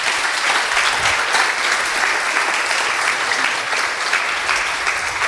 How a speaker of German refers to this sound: Erstmal bitte einen Applaus.